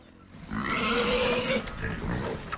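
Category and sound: animal, free-range pigs grunting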